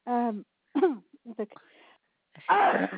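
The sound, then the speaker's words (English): A sharp, noisy sneeze bursts out near the end, fairly loud, after a few brief voiced sounds and murmurs that come before it. “Excuse me. Bless you.”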